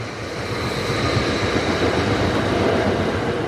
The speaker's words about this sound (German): Das war wieder dieser kleine Zug mit den zwei Waggons.